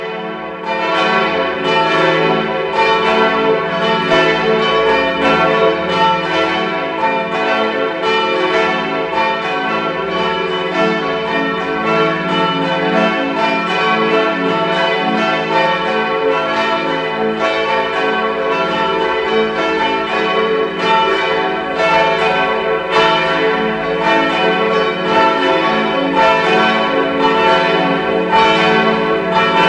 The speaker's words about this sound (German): Es ist 12 Uhr. Sie hören die Glocken der Pfarrkirche Maria am Gestade in Innsbruck.